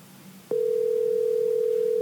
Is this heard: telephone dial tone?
yes